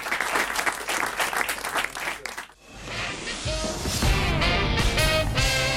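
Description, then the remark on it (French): A burst of crowd applause, dense and crackling, claps for a couple of seconds, then fades as a loud musical jingle swells in and takes over. “On vous applaudit”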